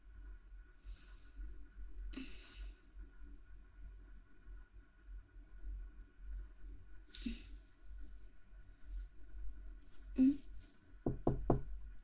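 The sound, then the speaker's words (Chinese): Knocking on a door: scattered single raps with long pauses, then a quick burst of three sharp knocks at the end, over a low steady indoor hum. “是不是他来了？”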